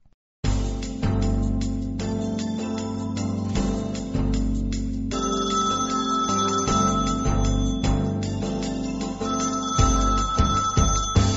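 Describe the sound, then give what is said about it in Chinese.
A telephone rings steadily and loudly for several seconds, its repeated electronic tones carried over a busy musical background with no one speaking. “快去接电话，别一直扒着电视不放。”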